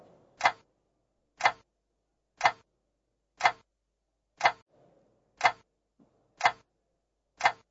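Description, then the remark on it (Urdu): A quiz timer clock ticks steadily, eight sharp, evenly spaced clicks about one second apart, crisp and bright, with faint low background murmur between some ticks and no speech. “time آپ کا ختم ہوا”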